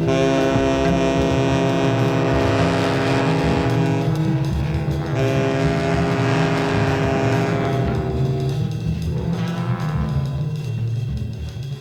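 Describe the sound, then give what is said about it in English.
Dense, droning music with a roaring, rumbling texture and sustained tonal layers, swelling and whooshing like a train rushing through a station, loud and continuous with no voices. “I'll walk around playing … because I just love the way it sounds like a subway car going through a station”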